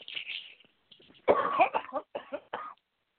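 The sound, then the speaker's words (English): A harsh coughing fit from a person whose cough has lasted several months: several rough coughs in quick succession, preceded by a softer, breathy rasp, with no talking. “That is a cough that has been going on now for several months.”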